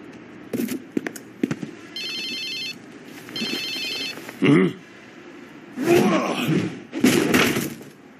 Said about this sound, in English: And unfortunately, Barbara calls him at that point at the most inopportune time, allowing his cell phone to go off, alerting Lunkhead of his presence.